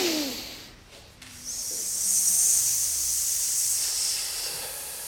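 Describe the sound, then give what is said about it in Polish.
During a breathing exercise, a group of people imitate vipers with a long, loud, sharp hiss that swells in after a brief lull and holds steady to the end, preceded by a softer breathy rush. “I jeszcze raz, piękne żmije.”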